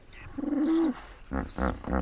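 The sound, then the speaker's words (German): A wheeze-honk call of a hippopotamus (Hippopotamus amphibius) from Mozambique: a thin, sustained wheezy tone, then three loud, deep, rhythmic honking bursts in quick succession, with no voices. “Und jetzt hören wir den berühmten Wieshonk-Ruf des Hippopotamus Amphibius.”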